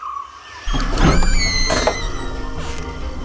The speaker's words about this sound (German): Dann gehe ich doch mal dahin und steck meine zwei Tokens ein. Die Tür geht auf. Dann gehe ich rein.